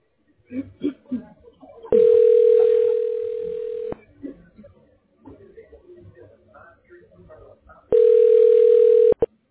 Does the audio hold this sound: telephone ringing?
yes